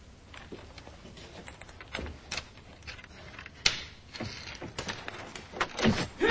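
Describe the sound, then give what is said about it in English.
Two intruders force open a door held by a chain to break in: a series of sharp knocks, rattles and clattering thuds, growing louder and more violent toward the end, with no voices. “The two thugs break in, one ties Alex's hands behind his back and hits his head against the wall.”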